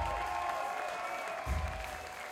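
Steady applause from an audience for the bartenders at the St. Mark's Social, a dense wash of clapping that holds at an even level throughout, with a faint tonal hum underneath.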